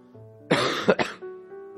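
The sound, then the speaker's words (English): A loud cough from a preacher leading a prayer bursts out in two or three harsh, quick pushes, sounding like a chesty throat-clearing hack, with a faint steady tone humming underneath before and after. “forgive me for my cough.”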